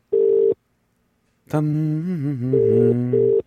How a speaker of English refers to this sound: And the phone should be ringing at any moment. There we go. It's, of course, a UK phone number.